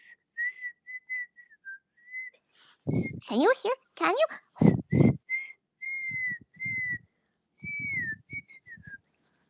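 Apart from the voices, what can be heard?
human whistling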